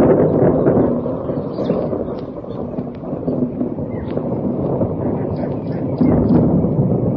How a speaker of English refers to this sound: I want you to thunder and lightning and rain. And the sky became full of clouds like a sea full of fish. The two families watched, excited and yet horrified. And then the thunder came.